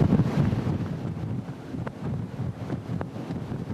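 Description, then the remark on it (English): Strong, gusty wind from Tropical Storm Irma roars steadily across the microphone at a marina near Tybee Island, buffeting it with low rumbling bursts, while faint water and boat sounds churn underneath. No one speaks. “this is what Mr. Gray was really concerned about as the community was feeling the impact from Tropical Storm Irma”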